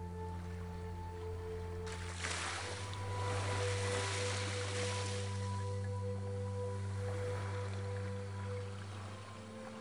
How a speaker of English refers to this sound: Picture the shoreline, gently touched by waves as they lap in and out.